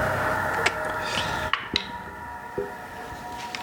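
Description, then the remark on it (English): A handful of sharp, irregular clicks and clatters of dice tumbling across a table, rolled for a perception check in a tabletop role-playing game, standing out over a steady low background hum. No one speaks. “Go ahead and make me a perception check to look around.”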